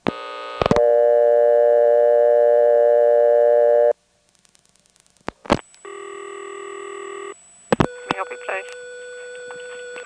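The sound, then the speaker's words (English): A telephone handset in Windsor, North Carolina, on the Carolina Telephone system, clicks off the hook and a steady, loud line tone hums, then breaks off; after a short quiet, more sharp clicks and another sustained electronic tone follow. “But I've got a tape recorder and I've got time and I just have to stop and pick up the phone.”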